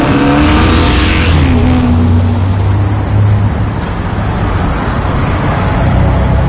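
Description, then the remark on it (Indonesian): An angkot minibus engine suddenly guns and roars loudly as it starts up a bridge over a railway line, the revving climbing at first and then holding as a steady, heavy drone of road noise throughout, with no voices. “Dan saat akan menaiki jembatan yang di bawahnya ada rel kereta api, angkot yang kunaiki ini tiba-tiba saja menancap gas.”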